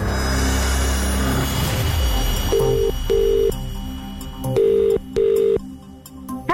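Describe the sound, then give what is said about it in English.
A phone line connects with a short burst of noise and faint clicks, then a ringing tone sounds in steady low-pitched double pulses, repeating twice with no one talking, as the radio station KMFM calls someone in Ashford, Kent. “Shall we make the phone call and surprise someone in Kent?”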